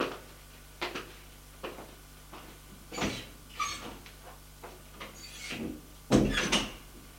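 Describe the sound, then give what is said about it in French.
A series of soft wooden clunks and rattles, like a door being handled, ending in a louder, fuller thud as a bedroom door shuts behind a man leaving the room. There are no voices, only a faint steady hum underneath. “Une fois la porte fermée, elle ouvre sa valise pour prendre son nécessaire de toilette et un peignoir de bain.”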